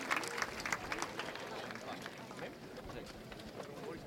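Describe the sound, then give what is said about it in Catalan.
An audience applauds steadily outdoors in the courtyard of the Col·legi Sant Ramon school just before a concert begins, many hands clapping in a dense, crackling wash that stays fairly even and eases slightly toward the end, with faint voices mixed underneath. “Per tant, doncs, primers aplaudiments aquí al pati del Col·legi Sant Ramon.”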